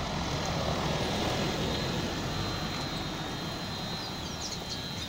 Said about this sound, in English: The booster sits just off the paved road, where birdsong competes with passing cars and the hum of the booster's machinery.